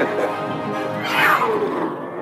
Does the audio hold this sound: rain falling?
no